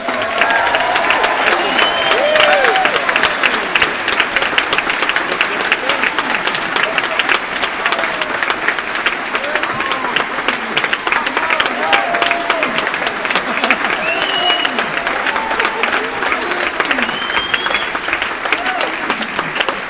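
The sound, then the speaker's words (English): Loud, sustained audience applause as chairman Nicholas Parsons is invited onto the stage of Just a Minute, a dense steady patter of many hands clapping, with faint voices and a few calls rising within the crowd noise. “I would like to invite that wonderful chairman onto the stage, and please give him a fantastic and warm and rapturous applause, Mr.”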